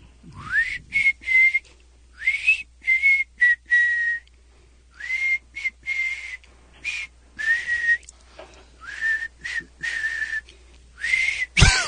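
A man whistling a song melody, breathy and airy, in short repeated phrases with brief pauses between them, moderately loud, with no talking; played as a guess-the-song game for band tickets for the Hollywood Bowl.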